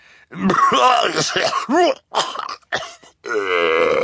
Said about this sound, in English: Mr. Poe took out his handkerchief again, and the Baudelaires waited as he coughed into it before replying.